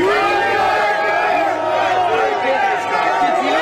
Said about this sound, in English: you hear the union guys in the background just cheering President Trump on